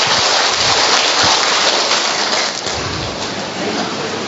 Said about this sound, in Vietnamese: À, thưa anh chị em, chúng ta cho một tràng pháo tay, chúng ta chào mừng những người con của Chúa.